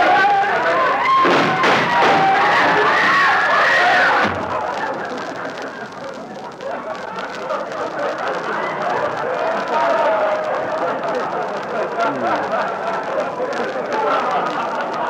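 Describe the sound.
A dense bustle of many overlapping voices fills a crowded department store bargain basement at Christmas time, loud and continuous, with a burst of louder chatter at the start before settling into a steady crowd murmur.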